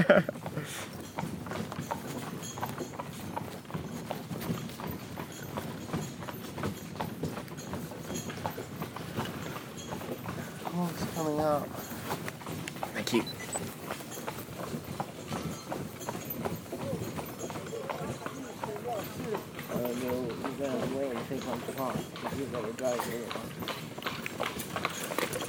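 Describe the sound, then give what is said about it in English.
A horse's hooves clip-clop steadily on a hard road throughout, a brisk, continuous rhythm, while people's voices come and go over the hoofbeats. “Go onto the horse.”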